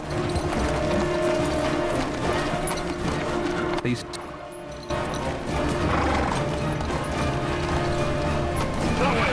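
Horses ridden by Gisborne and Alan gallop through a forest in pursuit, their hooves pounding loudly and continuously in a dense, rumbling rush that briefly drops away for a moment before surging back at full force.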